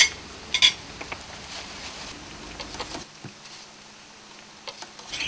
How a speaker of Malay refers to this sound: Kita goreng hingga kuning keemasan. Ini belum lagi. Tunggu sekejap lagi.